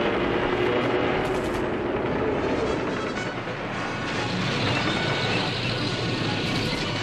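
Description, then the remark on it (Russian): A dense, unbroken battle din of gunfire and shell blasts as Soviet planes, tanks and infantry advance and retreating Germans fire back. It blurs into a steady roar with low rumbling underneath, fairly loud and continuous throughout, with no voices. “Немцы отстреливаются, но бегут, бросая свои перевернутые пушки и вкопанные в землю танки в камуфляжной раскраске.”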